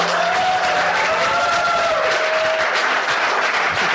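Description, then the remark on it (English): An audience at Politics and Prose Bookstore in Washington, D.C., gathered to hear author Hanya Yanagihara on her novel A Little Life, claps steadily and continuously, a dense, sustained wash of applause with a few faint tonal whistles or cheers rising above it. “Glad everyone clearly shares our enthusiasm for this book.”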